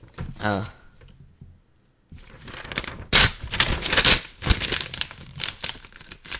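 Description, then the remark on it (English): After a brief voice sound and a pause, paper crinkles and strains in loud, uneven bursts as someone tries and fails to tear a sheet of paper. “I can't break the paper.”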